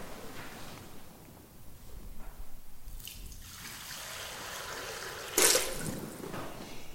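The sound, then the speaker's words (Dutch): Water is poured during a church baptism service, pouring and trickling steadily in a soft, continuous stream, with a brief brighter splash near the end; no voices, moderately quiet. “Hier laten wij water stromen.”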